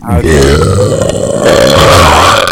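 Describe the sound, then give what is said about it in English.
A loud, drawn-out burp delivered into the microphone, low and rumbling with a wavering, gurgly texture that lasts a couple of seconds. “Should I give him a burp on the mic?”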